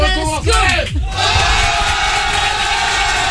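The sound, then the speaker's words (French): A crowd yells and roars together, a dense wall of shouting voices that sounds canned, like a fake studio audience, loud and sustained without any clear individual speech. “T'entends du monde hurler, puis t'entends. C'est comme si c'était un faux. C'est... Vache, on dirait un faux public.”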